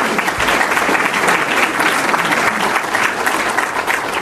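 An audience applauds steadily after a speech about pretrial practices in the Cook County criminal justice system, a dense wash of clapping hands that stays loud and even throughout, with no pauses or speech breaking through.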